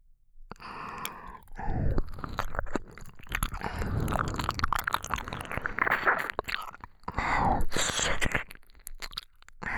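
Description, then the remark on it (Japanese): Wet ear-licking and smacking mouth sounds continue for several seconds with moist clicks and squelches in an uneven rhythm, fairly loud and with no talking. “このまま耳舐めて呼吸を続けていけば、おちんぽから熱いザーメンがドブーと。”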